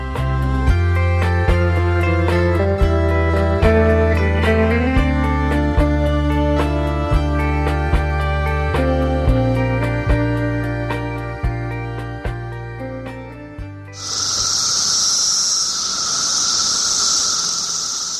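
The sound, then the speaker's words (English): Cicadas from a huge brood emerging by the billions buzz in a loud, steady, high-pitched drone for the last few seconds, taking over right after a rhythmic stretch of music ends. “Little sound of cicadas there, a huge crop of them emerging any day now, billions and billions.”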